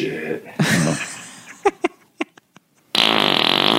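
A long, loud, sputtering fart rasps out, then breaks into a string of short, sharp popping bursts before cutting to a steady, even hiss.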